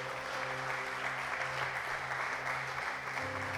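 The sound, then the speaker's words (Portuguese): A church audience applauds the Lord during a sermon, steadily for several seconds, a dense, continuous wash of clapping from many hands, with low sustained musical tones holding underneath. “Você pode aplaudir o Senhor mais uma vez, por favor?”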